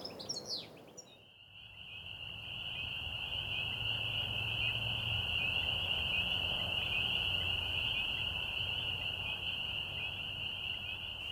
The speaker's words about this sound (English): I have always liked frogs. I like the looks of frogs and their outlook, and especially the way they get together in wet places on warm nights and sing about sex.